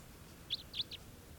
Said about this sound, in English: That was the wild bird. It's got a kind of a low raspy call.